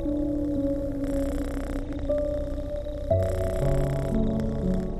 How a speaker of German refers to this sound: Der Kater quittiert deine Zuneigung mit einem noch lauteren Schnurren. Die Vibrationen dessen sind deutlich an dem zarten Katzenkörper zu spüren.